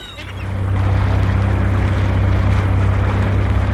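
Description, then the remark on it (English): A motorboat engine rumbles steadily, a loud low drone with a throbbing hum, rising from a brief start into a continuous roar over churning water as the boat is taken out for a test run. “Listen, can I take her out for a test run?”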